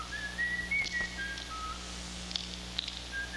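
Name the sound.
person whistling a tune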